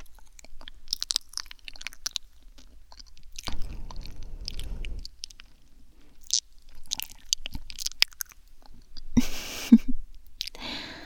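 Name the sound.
chewing food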